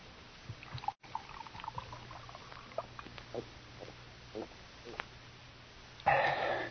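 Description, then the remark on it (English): After several seconds of low background noise and faint scattered sounds, a short burst of drinking water pours into a glass near the end, fairly loud. “Could have a drink of water, sir. Certainly. Right here.”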